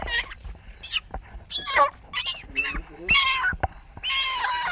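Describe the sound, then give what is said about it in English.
A chicken, held and tied before being decapitated, squawks and clucks in agitated bursts, with sharp rustling thumps as it fights with its wings, continuing throughout. “Yes, so now my mom just is holding and tied the chicken to decapitate it. This is the last minute of its life.”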